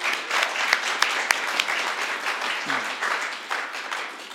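A crowd applauding steadily to congratulate a couple on the birth of a grandchild, dense overlapping claps forming a continuous wash of sound with a few sharper individual claps standing out, sustained throughout.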